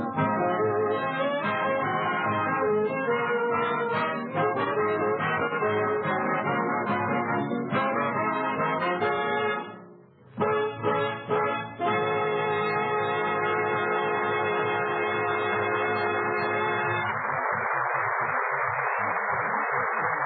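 An orchestra plays a lively, train-like tune with full, sustained chords and driving rhythm, briefly pausing midway before resuming, then giving way to a steady hiss of static at the end.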